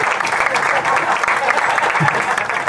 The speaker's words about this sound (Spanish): ahí quiero darle una gracia a mi equipo también, un aplauso para mi equipo de trabajo.